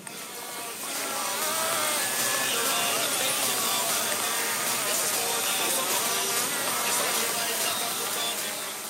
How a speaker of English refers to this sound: Beneath Bonval's feet, a chaotic buzz she had no idea about on the quiet hillside. The sensors in the soil picked up sounds not just of the creatures living in it, but other noises from further away, even from the radios playing inside nearby homes.